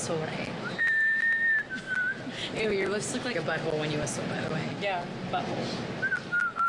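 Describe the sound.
The Bellas take turns whistling in a whistling contest on Total Divas, in England: a sustained, wavering whistle, then short thin attempts, mixed with chatter and laughter from several voices, and a final brief whistle near the end.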